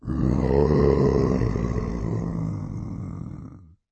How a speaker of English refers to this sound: It sounded like growling. But I didn't think rats growled, so it couldn't be rats.